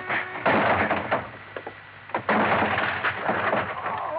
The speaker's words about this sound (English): I headed back in fast and straight to the door of Crothers' little office. The door of it was locked. Crothers, open up! Crothers! Okay, then I'll open it.